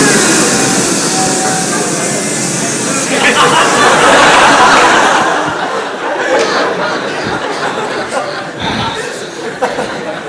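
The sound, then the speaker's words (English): A crowd of voices imitates buzzing bees as a chant, a 'kirtan of bees': a loud, dense, sustained hum and drone with breathy hiss that swells around the middle and then thins out into scattered voices and chuckles. “That was a kirtan of bees.”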